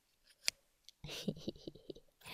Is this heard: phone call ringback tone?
no